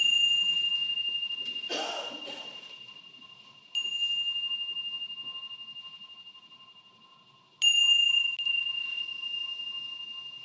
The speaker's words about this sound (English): So I will ring the bell now and encourage you once more to just take a moment to notice what's most pleasant in this moment.